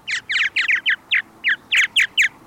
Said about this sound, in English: And the third chorus of voices belongs to birds now migrating from farther south, like the purple martin.